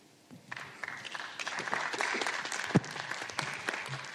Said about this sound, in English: I think, Elder, the applause says everything.